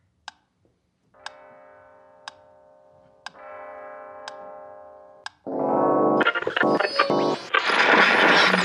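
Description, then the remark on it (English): A clock ticks steadily while a sustained, ringing clock chime sounds, then a loud, dense clamor of church bells swells in and fills the end. “And once again the clocks chimed and the church bells rang, and Scrooge felt a deathly presence.”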